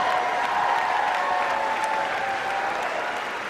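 crowd applauding and cheering

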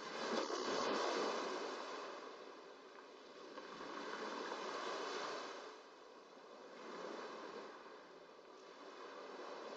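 ocean waves

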